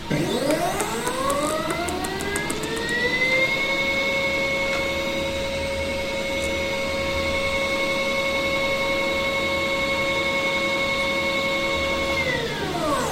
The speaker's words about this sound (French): Ce qu'on vient d'entendre là, c'est le bruit des moteurs de mouvement du télescope. On a successivement entendu le moteur de déclinaison